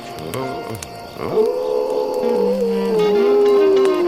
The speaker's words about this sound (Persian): بعضی وقتا زوزه کشیدن یه بچه گرک فرکانسش از صدای بعضی آدم ها بالاتره.